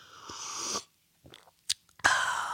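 A breathy slurp of someone sipping Culligan water, then a short pause with small wet swallowing clicks, followed by another airy rush of breath. No one speaks.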